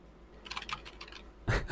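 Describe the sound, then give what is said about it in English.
A quick run of keystrokes clatters on a computer keyboard, about a dozen light taps in rapid succession, ending in a louder, heavier key strike. No one speaks. “Typing can be heard.”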